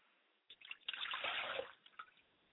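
liquid poured as libation

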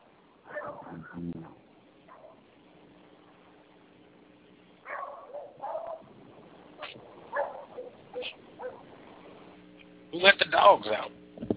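dog barking

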